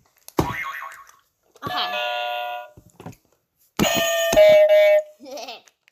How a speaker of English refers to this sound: Can you ring the bell?